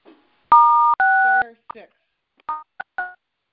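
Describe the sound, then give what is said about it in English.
Telephone keypad tones, clear: two sustained dual-pitched beeps in quick succession, then a few shorter, quieter beeps as more keys are pressed, as star six is dialed to mute a phone line. “Sorry, what was the mute? What was the mute? Star 6.”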